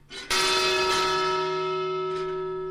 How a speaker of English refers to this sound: This bell sounded whenever a new ship of Chinese immigrants was approaching Angel Island in the early 1900s.